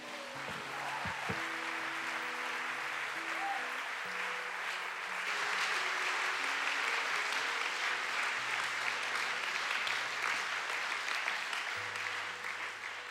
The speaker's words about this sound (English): I know you were clapping because that was a good word. Now, can we clap for the prophet of God who brought us the word of God today?